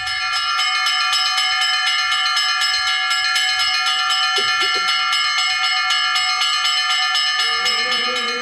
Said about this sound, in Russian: Теперь, когда построен храм в честь всех святых, духовенство надеется, что колокола соберут мирян под своды кладбищенской церкви.